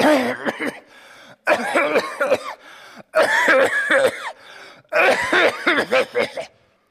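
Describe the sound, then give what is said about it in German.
A person imitates the heavy, hacking smoker's cough a man had every morning after getting up, in four harsh bursts, each a rapid string of rough, throaty coughs with short pauses between, loud with no other talk. “Oder manchmal auch nach dem Rauchen ist das. Denkt, so einen Husten.”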